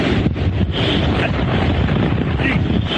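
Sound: strong storm wind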